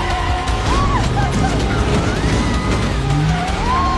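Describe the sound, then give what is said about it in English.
A car fishtails into a parking lot after braking and a sharp spin of the wheel: the engine roars steadily while tires squeal in short rising and falling whines as the car slides and swerves. “The car fishtails into a parking lot.”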